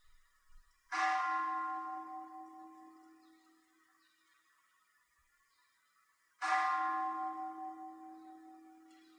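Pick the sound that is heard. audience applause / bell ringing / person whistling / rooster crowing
bell ringing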